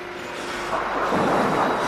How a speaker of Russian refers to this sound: Какая ужасная гроза.